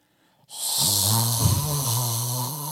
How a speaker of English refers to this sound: One night, I woke up to someone breathing loudly.